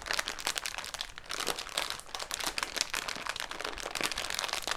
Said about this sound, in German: Und das Feuer, da gibt es viele Möglichkeiten. Zum Beispiel kannst du einfach mit einer Nudelpackung knistern. Auch das klingt schon ein bisschen wie ein Lagerfeuer.